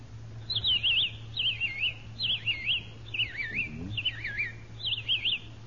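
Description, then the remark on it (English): A whistled imitation of a robin's song: six short, warbling, rising-and-falling phrases repeated in a steady rhythm, clear, over a low steady hum. “A robin. Robin?”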